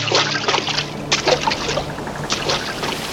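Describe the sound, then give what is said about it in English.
Sea water sloshing and splashing in irregular, loud surges, with a steady low hum underneath and no voices. “He goes back to the sea again.”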